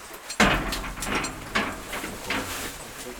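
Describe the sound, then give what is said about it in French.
A heavy door rumbles shut at the entrance to an underground mineral site with a sudden loud clunk, followed by several grinding, ratcheting mechanical surges over a low continuous rumble, with no voices. “La porte se referme et le royaume minéral souterrain vous accueille.”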